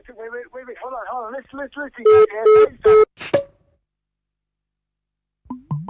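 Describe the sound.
Three short telephone keypad tones beep in quick, even succession as a phone call is dialed, right after a stretch of speech, followed by a pause of silence before a voice briefly returns.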